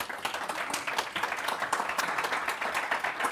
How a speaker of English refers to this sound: I want to thank all the panelists for some really interesting interventions. How about a round of applause for them?